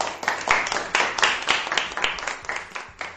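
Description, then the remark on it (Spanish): Sustained applause from a crowd for healthcare workers, dense overlapping claps with sharper individual hand claps popping out irregularly, steady and moderately loud throughout with no one speaking. “Claro, es que esos aplausos son muy merecidos y muy reconocidos porque los sanitarios y toda la gente que rodea a esa profesión se lo trabajaron muy bien y les estamos francamente agradecidos.”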